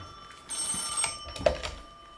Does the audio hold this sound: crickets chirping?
no